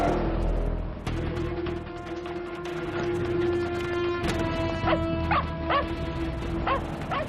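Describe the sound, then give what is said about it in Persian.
A dog barks and yips repeatedly in sharp, excited bursts, loud, with a steady background hum underneath and no talking. “منم دنبال سگه میرم، سوار شید، فقط سریع.”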